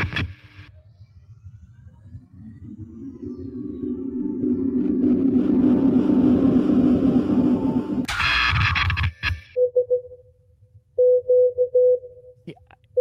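Short, steady electronic beeps pulse in an irregular on-off pattern like Morse code, clear, following a swelling low drone and a brief burst of harsh noise.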